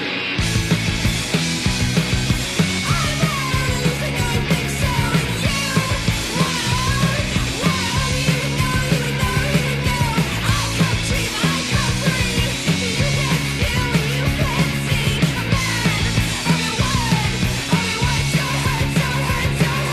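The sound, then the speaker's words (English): Loud, dense punk rock opening a song, with furiously strummed, fuzzy distorted guitar chords and pounding drums, and a shouted vocal yelling over the din without a break from start to finish. “which kicks off with a lot of attractive guitar noise and yelling”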